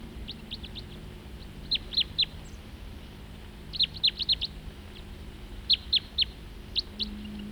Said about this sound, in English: Same bird. And another crossbill flying nearby.